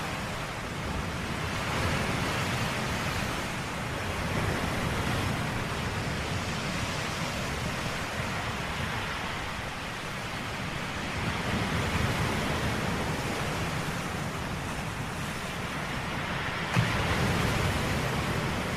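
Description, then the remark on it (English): Steady, continuous ocean surf on a desert island with a broad hissing wash, swelling gently and easing back at a fairly even level throughout, with no voices or other sounds. “But no, we're just stuck out here on a desert island.”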